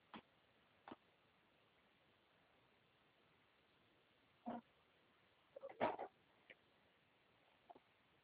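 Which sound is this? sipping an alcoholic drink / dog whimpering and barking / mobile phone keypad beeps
dog whimpering and barking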